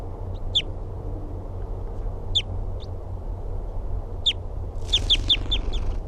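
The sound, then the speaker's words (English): A wild bird calls repeatedly from a very small tree about 3 feet above the ground: short, high, sharp notes spaced apart, ending in a quick run of several chirps, over a steady low rumble of background noise. “And he's calling now from a very small tree, about 3 feet above the ground.”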